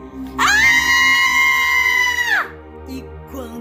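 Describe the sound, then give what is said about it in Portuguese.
A loud, high-pitched shriek of children's voices rises suddenly as one boy screams and the others join in, holds steadily for about two seconds, then cuts off, leaving quiet with a faint murmur. “… deu um grito, fazendo os outros gritarem também.”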